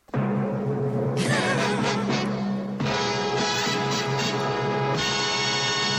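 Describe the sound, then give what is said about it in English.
A loud, full orchestral jingle plays on its own, with sustained brassy chords that swell and shift about every second or two: the ITC Entertainment television company logo fanfare. “Yeah, it's ITC Entertainment.”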